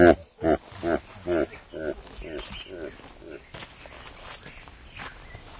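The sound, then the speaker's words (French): A man growls like a tiger, voicing a few rough, snarling bursts before trailing off into quieter, breathy rumbling. “Parce que maintenant ils sont dans une situation désespérée, les Naxalites, parce que le tigre s'est réveillé et il va les chercher. C'est moi le tigre.”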